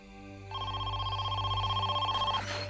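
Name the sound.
telephone ringing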